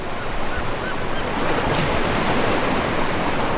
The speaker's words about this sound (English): Down at the beach, the tide is low and the water is calm. Tiny waves wrap around the point at Campus Beach.